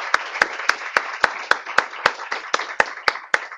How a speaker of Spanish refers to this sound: Vamos a brindarle un fuerte aplauso nuevamente